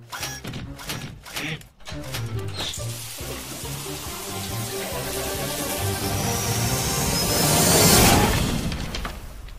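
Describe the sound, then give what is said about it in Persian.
Shower water runs in a steady hiss that swells louder toward the end, with a few sharp knocks and clatters near the start. “این دوش گرفتم باعث شد یه سری تکنیک جدید یاد بگیرم.”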